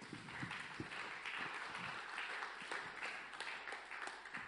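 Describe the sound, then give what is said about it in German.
A crowd applauds steadily, many hands clapping at once in a dense, continuous patter that holds at an even level throughout, with no voices standing out. “Nicht, dass wir jetzt noch Klatschen einführen.”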